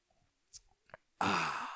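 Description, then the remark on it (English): A few quiet sips and swallows of water taken live on air, followed by a loud, breathy satisfied exhale that lingers to the end. No talking. “I need to take a sip of water. Let me take a sip of water live on the air.”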